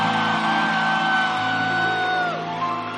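An audience in church cheers and shouts, with loud sustained whoops and yells over a busy crowd noise. One high held cry slides downward in pitch near the end.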